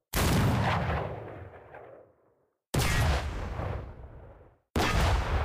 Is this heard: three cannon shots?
yes